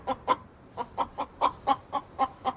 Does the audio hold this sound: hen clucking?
yes